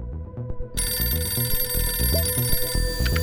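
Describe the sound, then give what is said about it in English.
A telephone starts ringing partway in, a bright continuous electronic ring that stays loud to the end over a low, rhythmic musical backing. No one speaks. “And what you need to know is that for this week's spy, it all started with a phone call.”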